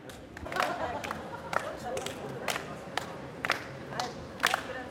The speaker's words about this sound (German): die SchülerInnen stehen auf einem grünen gezeichneten Kreis in der Mitte ihres Standes und laufen in kleinen Schrittchen umher und tuscheln dabei leise. Jetzt fangen sie an zu klatschen und zu schnipsen.